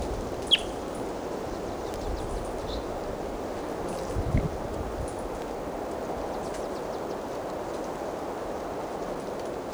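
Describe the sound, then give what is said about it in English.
A wild bird gives a few brief, high chirps, the sharpest one near the start, over a steady, hissing wash of background noise. No one speaks. “Now back to the wild bird.”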